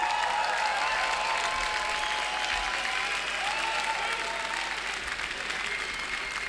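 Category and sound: crowd, big audience applause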